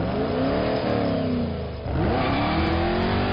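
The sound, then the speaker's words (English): A Chevy Camaro muscle car engine at the 2024 New Hope Auto Show revs loudly, its deep rumble climbing in pitch, dipping briefly, then surging again in a strong rising roar. “This year celebrates the muscle car classic, the Chevy Camaro.”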